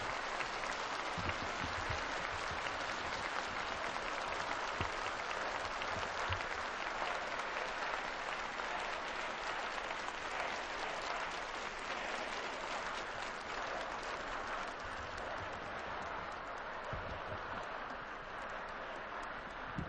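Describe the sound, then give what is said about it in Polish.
Sustained applause from an audience, a dense, steady wash of clapping that holds at an even, fairly loud level for the whole stretch without pausing. “Bardzo Wam dziękuję za te oklaski.”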